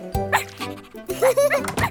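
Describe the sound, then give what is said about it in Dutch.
A wet dog barks and yips several times in quick, uneven bursts, fairly loud, with no talking around it. “Natte hond!”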